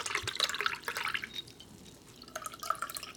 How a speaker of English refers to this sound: So I just pour it through just a little filter.